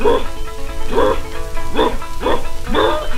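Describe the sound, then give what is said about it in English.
A man's voice imitates an old hound dog baying as it comes out of the mountain on a trail, giving five rhythmic, drawn-out howling calls in quick succession, loud, with nothing else around them. “The old dog coming out of the mountain, he's giving him something like this, said,”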